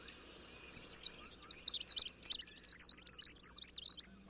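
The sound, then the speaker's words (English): A male bird and his partner sing a lively duet, rapid warbling phrases weaving together continuously for several seconds, clear over a quiet background with no voices. “So for the male, aggression might not accomplish the goal of ensuring paternity, but singing a spirited duet with a partner could.”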